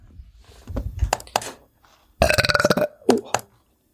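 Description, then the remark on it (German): A loud burp from a person rasps out for about half a second, with a shorter croaky one following and some softer throaty rumbles before it. “Dein Rülpser war gerade aber ziemlich laut.”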